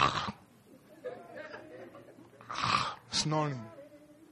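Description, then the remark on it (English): A voice imitates the snoring of people asleep in bed: a few rough, breathy snorts and gurgling inhales, loud, with a stronger pair of snore-like bursts near the end. “While you and myself, we are there on our beds, sleeping and snoring.”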